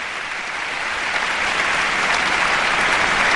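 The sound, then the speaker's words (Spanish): Sustained applause from the OBC orchestra musicians, with conductor Ernest Martínez Izquierdo seated among them, for pianist Nikolai Luganski's performance: a dense, steady patter of clapping that holds at an even, fairly loud level throughout with no voices. “Los músicos de la orquesta siguen aplaudiendo y el propio Ernest Martínez Izquierdo, sentado en las filas junto a los músicos de la OBC, aplaudiendo la interpretación de este espléndido pianista.”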